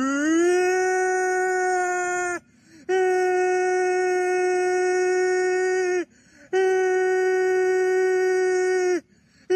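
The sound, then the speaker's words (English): Voices imitate a tornado siren, called a super tornado siren, with three long, loud, steady wails, each rising at the start and dropping off at the end, separated by short pauses. “Okay, guys, let's do a super tornado siren.”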